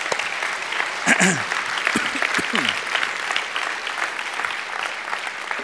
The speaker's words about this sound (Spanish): Si Dios le habló, de un aplauso al Señor, que se lo merece. Amén.